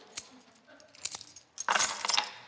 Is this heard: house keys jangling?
yes